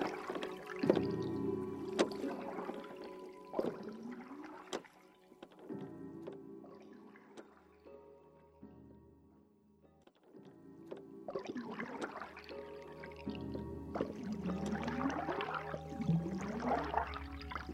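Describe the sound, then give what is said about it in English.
Oars dip and pull through lake water in a steady rhythm, with splashes and wooden creaks of a rowboat gliding back to an island in the center of the lake, pausing briefly in the middle before the strokes resume. “The oars dip into the water. The boat moves forward, gliding back to the island in the center of the lake.”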